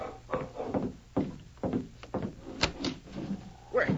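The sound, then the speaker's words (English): Uneven, heavy stumbling footsteps outside Bill Kramer's door scuff and thud, about eight irregular steps with a stumbling rhythm, plus a sharper knock near the end, with no voices. “It was hours later when Bill Kramer heard the sharp bark of a dog and then a stumbling footstep outside his door.”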